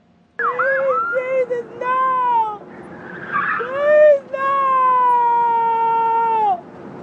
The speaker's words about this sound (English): Oh, they did manage to call an ambulance, which you can sort of tell.